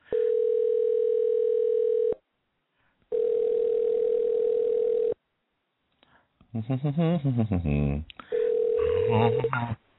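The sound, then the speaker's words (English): A telephone ringing out as a sports show calls an NFL fan live on air: a steady, mid-pitched ringback tone sounds in long two-second bursts separated by pauses, with a voice talking briefly between the later rings. “A NFL fan, and see if they have the courage and the moxie to answer the phone and put their NFL picks on blast.”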